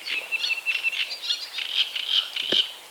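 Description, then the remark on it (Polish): Great reed warblers sing continuously in the background in a dense, scratchy, chattering chorus, steady and moderately loud, with medium-sized gulls and a brief lower call cutting in near the end. “Średniej wielkości mewki. A do tego to, co wypełnia tak w tle, to trzciniaki.”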